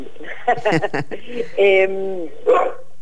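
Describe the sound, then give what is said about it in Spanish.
A female dog barks several times in short, loud bursts, including a drawn-out yowling bark, during an interview, with a steady low hum underneath. “Perdón, mi perra quiere participar en la entrevista.”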